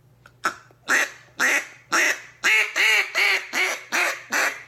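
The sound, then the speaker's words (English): A duck call blown in a steady series of about nine loud, raspy quacks, evenly spaced, with a faint low hum underneath and no talking. “I'm teaching Butters how to blow a duck call.”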